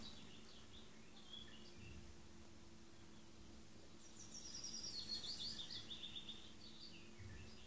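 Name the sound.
birds singing outdoors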